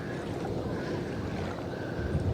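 Small waves stirred up by a ship called the Fellowship lap and slosh against the side of a boat in a steady wash of water, with a soft rumble of wind underneath and no voices.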